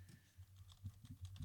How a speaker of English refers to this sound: What's he got up his sleeve there? He's typing. He's typing, folks.